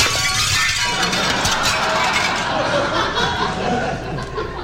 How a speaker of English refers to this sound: This football, which has just come crashing through the $5,000 President McKinley French windows